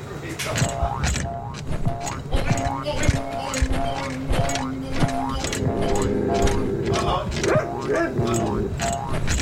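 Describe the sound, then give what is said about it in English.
Rhythmic, steady bouncing of a person on a motel room bed while a dog tries to bounce on them, each bounce bringing a squeaky, groaning creak of springs, repeating about every half second with voices underneath. “I'm going to bounce up and down on the room bed to prove I'm in a motel.”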